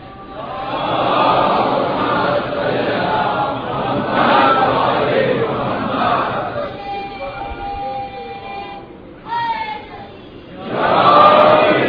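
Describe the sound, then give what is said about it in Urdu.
A crowd at a majlis chants the religious slogan Naara-e-Haidari in a subdued, murmuring mass of voices that swells and dips in waves, with a few individual voices rising higher toward the end. “آپ نے ایک بات غور کی کہ اتنا خوف آ گیا کہ اتنی آہستہ نعرے حیدری کا ڈر اتنا ہے بابا.”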